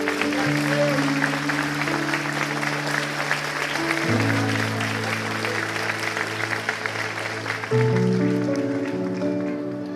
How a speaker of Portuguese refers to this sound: Você pode aplaudir em nome de Jesus.